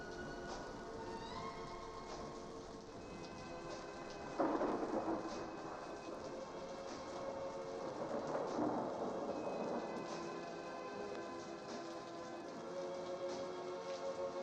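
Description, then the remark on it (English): A thunderstorm: steady rain hisses throughout while two loud rolls of thunder rumble in, the first abruptly and the second a few seconds later, with soft sustained tones lingering underneath and no talking. “Well, wherever you are, whoever you are, the first time you heard this, you still hold in your heart that memory of that stormy night.”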